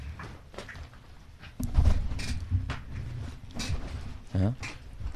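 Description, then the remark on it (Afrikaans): A studio chair creaks and knocks in uneven bursts, with a louder strained groan near the end and no talking over it. “Yeah, and we can't sit on it because it makes noises.”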